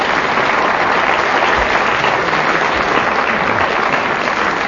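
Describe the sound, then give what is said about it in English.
Sustained applause from an audience, a dense steady patter of many hands clapping at an even, fairly loud level throughout, with no voices standing out. “And the reason that I asked for that unsolicited applause is that they've both drawn level.”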